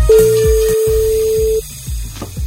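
A steady telephone tone holds for about a second and a half, followed by brief low clicks and faint line noise, as a call is placed on Mix Megapol radio to a listener who signed up for the Kassavalvet contest round.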